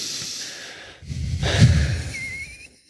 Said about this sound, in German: So, wir atmen jetzt einmal tief durch.